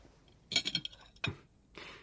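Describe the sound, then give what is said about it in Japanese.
Dishes clink together as someone carries their used dishes away after a meal, a quick cluster of bright, ringing taps, followed by a single sharper clatter and a soft scrape, with no talking. “でも食器は運ぶからな。”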